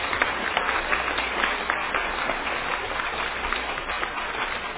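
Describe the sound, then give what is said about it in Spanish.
Steady applause from a group fills the whole stretch: dense, overlapping hand claps at a fairly constant, moderately loud level, with no voices on top. “Un aplauso entonces para René Mina, allá en Europa.”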